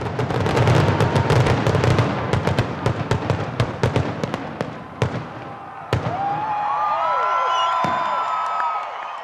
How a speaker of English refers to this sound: A Pennsylvania company, Zambelli Fireworks, put on a spectacular display.